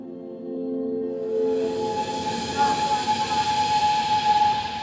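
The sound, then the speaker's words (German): A train with orange carriages, looking like a historic Swiss mountain railway, pulls in on a company campus in China with a steady rumbling roll and hiss, joined by a sustained high-pitched brake squeal as it arrives and grows loud. “Ein Zug kommt an.”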